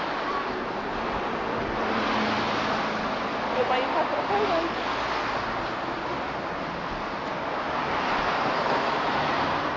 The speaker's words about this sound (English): I can't hear you, I'm sorry. Wait till we get in the shop. It's too noisy, all these cars, isn't it?